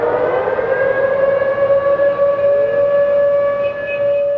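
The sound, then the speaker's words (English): A loud air raid drill siren in Seoul wails on a steady, sustained tone with a slight upward glide, holding its piercing pitch continuously over a low rumble of background noise, with no voices. “The air raid drills remind everyone here that the North Korean army is only 35 miles away, nearly a million soldiers held at bay by a 2.5 mile wide stretch of land called the Demilitarized Zone, or DMZ.”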